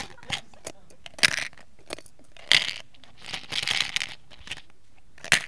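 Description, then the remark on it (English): Dice clatter and tumble onto a hard surface in several sharp bursts, with quick rattling bounces and clicks scattered across a few seconds, moderately loud. “Dice down, dice down.”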